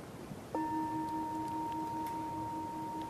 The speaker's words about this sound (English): So if you know, I think this, if I hit it right, this bell makes a nice sound. So let's see.